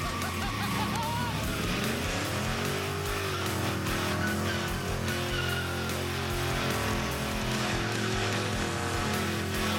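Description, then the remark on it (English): A Corvette doing a burnout, its engine roaring and revving loudly while the tires squeal and hiss continuously for about ten seconds, dense with noise. “Because, you know, it's not just a burnout. You gotta give him a show.”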